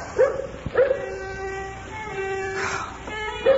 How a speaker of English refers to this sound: Morgan's the dog, and he's not at all partial to the upper registers.